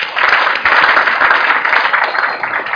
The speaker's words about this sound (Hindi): सही आप बोलते हो, संसार के लिए तालियां।